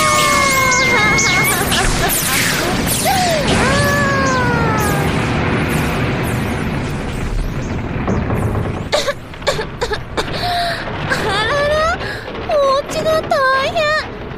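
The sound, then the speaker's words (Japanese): A dense, roaring barrage of explosion booms from an incoming danmaku (bullet-curtain) barrage of lights rumbles continuously for several seconds, threaded with whistling tones, then breaks into choppier, separate bursts near the end. “ドーンってドーンドドドーンって。”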